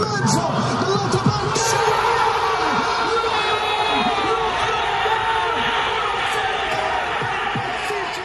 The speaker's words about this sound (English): Here's the sounds in the city last night as thousands of people celebrated another goal.